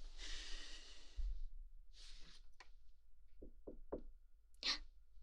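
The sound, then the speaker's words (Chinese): Three quick, evenly spaced knocks on a door, fairly loud, following a stretch of soft breathy sighs and rustling, with a faint airy exhale after the knocks. “有人敲门，应该是主人，我去开。”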